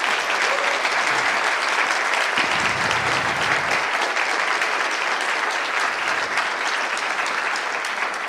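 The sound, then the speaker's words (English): Sustained audience applause for the Calls of Proposal committee that reviewed the talks, a dense, steady wash of many hands clapping at an even loudness for the whole stretch, with no voices standing out. “So another round of applause for that.”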